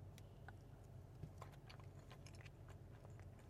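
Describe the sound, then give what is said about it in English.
Quiet chewing of a Carlota de Limón lime icebox cake with cookies: a soft cake with scattered crisp bits, irregular small crunches and smacks over a steady low hum, with no talking. “Next we have is Carlota de Limon icebox cake.”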